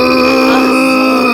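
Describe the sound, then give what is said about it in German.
A person imitates a moose mating call with a loud, sustained, buzzing tone that holds one steady pitch, rich in harmonics, for over a second without a break. “Nein, zum Beispiel ein Elch macht ungefähr.”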